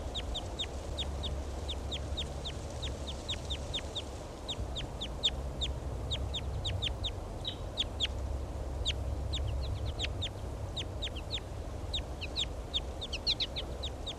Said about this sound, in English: Creek. Giving flight calls. Pointing at the wild bird. Start recording the wild bird.